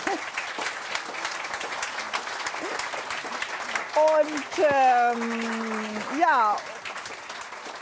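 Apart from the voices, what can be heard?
audience applause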